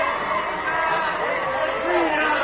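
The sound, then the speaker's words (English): A large crowd near Claudia's house on the Palatine Way crying out as Caesar approaches, shouting and clamoring together, a dense, steady roar of many overlapping voices that swells slightly toward the end, with no single speaker standing out. “Caesar walked toward them smiling, and when they saw him, a cry went up.”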